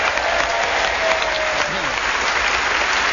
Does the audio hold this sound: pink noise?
no